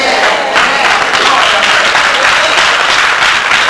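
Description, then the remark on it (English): Steady applause from an audience, a dense wash of many hands clapping at once with a faint crowd murmur underneath, holding constant throughout. “Oh, I think y'all 20 people for clapping.”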